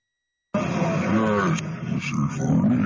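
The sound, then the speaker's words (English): A wolf lets out a loud, drawn-out growling howl that wavers in pitch for about two seconds before trailing into a rough, throaty rumble. “This one says, Dad, it's your funny wolf.”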